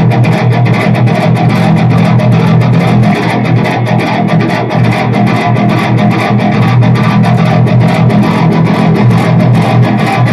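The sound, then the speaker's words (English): A fanned-fret electric guitar plays loud and continuously with heavy distortion and effects, switched from the back pickup to the front pickup, its tone warmer, thick with a strong low-mid body, with no talking. “And then there's the back one and then the front one, which makes for different tones. So it's warmer now.”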